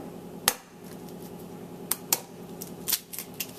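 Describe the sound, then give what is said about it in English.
An egg being cracked into a bowl of sugar and cocoa mixture: a few sharp, crisp taps and cracks spaced over a few seconds, then smaller crackling clicks, all over a steady low background hum with no talking. “Now add an egg.”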